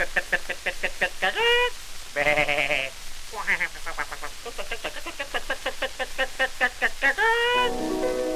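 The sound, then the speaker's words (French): A person imitates a hen in a French song, with rapid, pulsing clucks and cackles, the bursts rising and falling in pitch over several seconds, fairly loud. “Et ma poule fait.”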